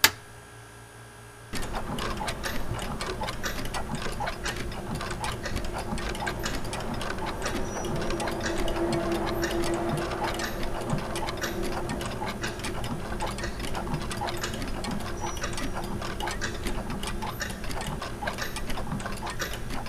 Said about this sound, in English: Certainly, clocks. An astute observation, my old friend. Those were clocks.